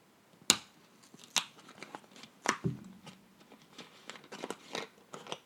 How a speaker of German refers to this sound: Und dann dreht man ja quasi immer bei so Plastikflaschen und hört ja irgendwann dann dieses Klick. Ich mach's euch mal vor. Das hört sich dann ungefähr so an.